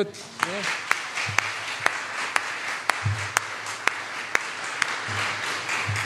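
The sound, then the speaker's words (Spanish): A crowd applauds a girl who is getting married next year, steadily for several seconds, a dense wash of clapping punctuated by sharp, evenly spaced claps about twice a second, with faint voices murmuring underneath. “Ahí hay una niña que se va a casar el próximo año. Denle un aplauso.”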